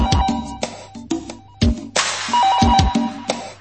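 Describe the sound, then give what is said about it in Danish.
A phone rings with a bright electronic ringtone, a quick melodic pattern of beeping tones repeating several times, loud, with no one speaking. “Pludselig ringer telefonen, og det redder mit hjerte.”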